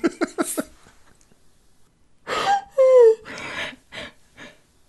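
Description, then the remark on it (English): A few quick, choppy breath bursts, a short pause, then loud snores: long rasping inhales with a whistling, falling tone, followed by a couple of shorter snorts. “snoring is worth the price of admission on this episode.”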